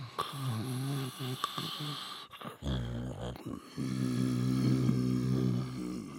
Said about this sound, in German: »Ein typisches Mammutschnarchen«, sagte der Allerkleinste.